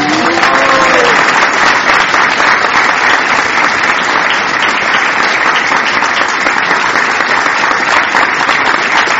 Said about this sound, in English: These are the wonderful people who brought these children into the world. Give them your rousing round of applause.